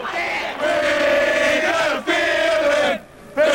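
A large stadium crowd of 1974 Pittsburgh Steelers football fans at Three River Stadium chants in unison "I got a feeling Pittsburgh going to the Super Bowl", a loud sustained roar with a steady sung pitch, breaking briefly between phrases before swelling again.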